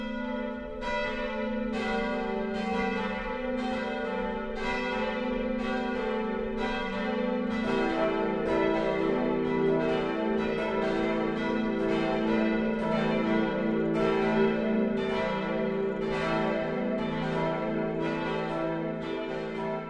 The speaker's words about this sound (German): Es ist 12 Uhr. Das Mittagsläuten kommt heute von der katholischen Pfarrkirche St. Johannes der Täufer im unterfränkischen Stadtlauringen.